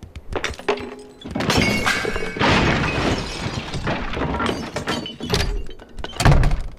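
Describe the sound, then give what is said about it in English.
A video game crash sound effect: a cluttered crash of objects tumbling and breaking, with heavy thunks and shattering debris spread over several seconds, ending in a final loud impact. No voices. “There's a few bigger events that are like crashes and whatnot.”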